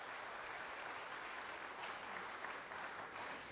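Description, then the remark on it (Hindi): An audience claps steadily after a recited verse about life, a dense continuous wash of many hands at an even loudness throughout, with no voices over it. “अब जोर से तालियां बजाइए.”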